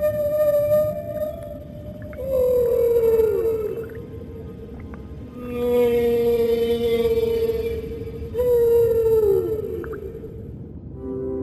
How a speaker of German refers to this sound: Worüber diese Buckelwale singen, ist noch nicht erforscht, aber ich hoffe, man arbeitet dran. Wahrscheinlich singen sie von der Schönheit des Meeres, die sie ja mit ihren ganz eigenen Augen betrachten.